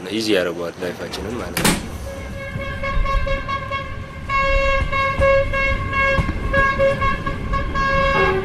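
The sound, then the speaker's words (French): The horn of a new passenger train blares loud in long sustained blasts for several seconds, with a brief burst of voices and a sharp clatter just before it begins. “C'est la première fois que je prends le nouveau train.”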